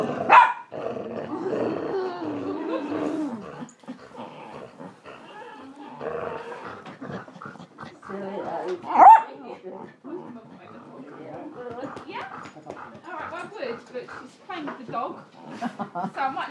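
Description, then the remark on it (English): A dog growls and gives a couple of sharp barks during rough play with a woman, with people talking over and between the playful snarls. “Yeah, all right, well, I would, but she's playing with the dog, so I might not get to say bye.”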